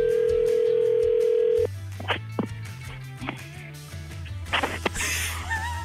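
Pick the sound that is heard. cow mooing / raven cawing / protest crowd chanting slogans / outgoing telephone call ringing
outgoing telephone call ringing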